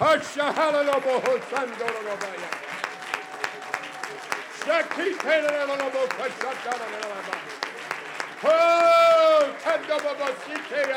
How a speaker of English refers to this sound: Oh, let's clap our hands to the Lord.